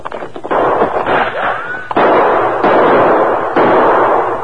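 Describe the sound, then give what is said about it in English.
Several sharp gunshots ring out in uneven succession in a canyon, fired from behind a large rock up to the left, each followed by a long, rumbling echo, with a high whining ricochet curving through the middle of the volley. “That shot came behind that large rock up to the left, Tonto.”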